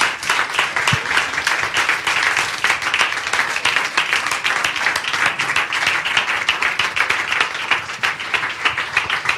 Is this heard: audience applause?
yes